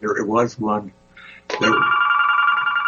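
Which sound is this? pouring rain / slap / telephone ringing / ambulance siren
telephone ringing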